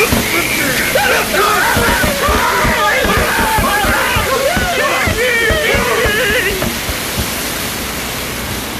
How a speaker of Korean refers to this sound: 그 해골 모자 놈들은 우리한테 물대포를 쏴대기 시작했어. 당신 그거 맞아본 적 없지?